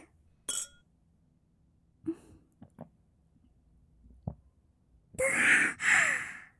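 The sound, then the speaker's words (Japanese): A single bright clink of glasses rings out near the start as two people toast with drinks at home, followed by a few soft clicks and then a long, audible sigh of breath. “じゃあ、とりあえず乾杯しよっか。”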